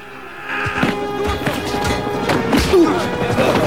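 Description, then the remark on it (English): Several sharp thwacks of high kicks landing on two policemen in an open plaza, scattered irregularly over a busy, scuffling background of movement and commotion. “high kicks two policemen.”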